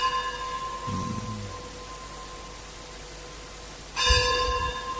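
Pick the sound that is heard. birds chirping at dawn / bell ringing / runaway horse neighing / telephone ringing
bell ringing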